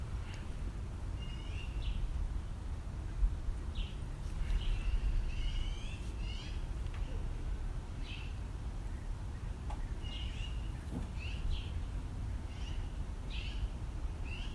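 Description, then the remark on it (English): Birds call back and forth in sharp, repeated bursts over a steady low rumble of background noise, sounding agitated, as if squabbling, with no voices present. “It sounded like they might be fighting, or at least upset with one another.”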